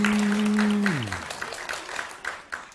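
An audience claps in a dense, steady burst of applause, while a low sustained tone at the start slides downward and drops away after about a second.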